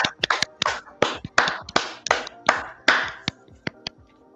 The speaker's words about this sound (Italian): ringrazio anche il nostro pubblico. C'è un bel applauso al nostro pubblico. Accidenti, dai. Accidenti.